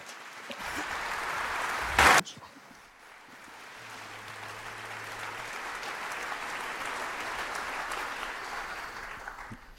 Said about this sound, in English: I kindly ask all of you here in so large numbers to kindly applaud for our speakers.